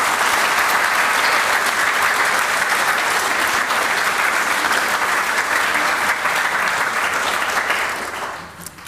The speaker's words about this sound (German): Und jetzt bitte ich um einen kräftigen Applaus für unsere Konfirmierten.